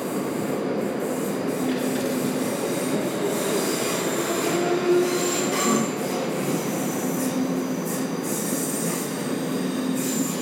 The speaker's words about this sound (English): There's another train in. One went away and there's another one in. Oh, no, they're both away.